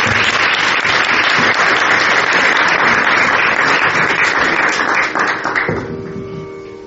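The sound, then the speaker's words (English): An audience at an evening event in London applauds to welcome a speaker, a dense, steady wash of many hands clapping, loud and sustained for about six seconds before tapering off, with a faint tonal hum emerging as it fades. “So if you can welcome him with a round of applause.”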